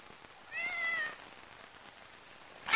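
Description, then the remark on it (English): A single high, drawn-out kitten meow with a clear wavering pitch, moderately loud, followed by a brief sharp hiss near the end against a quiet background. The kitten is bristling, its eyes fixed on a stairway. “The kitten bristles, fixing its eyes on a stairway.”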